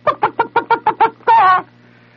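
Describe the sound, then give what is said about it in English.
A voice imitates a chicken: seven quick, evenly spaced clucks, then one longer drawn-out squawk, loud, followed by a faint background hum. “And I could hear the chicken go, you know, what the hell you're going to do with a Bambino Sultan of Swat, 8.5-foot-high Sultan of Swat?”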